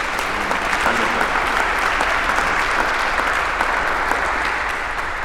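An audience applauds steadily for several seconds at the start of a worship service, thanking two musicians who played at the beginning, a dense, even wash of many hands clapping at a constant, fairly loud level with no voices rising above it.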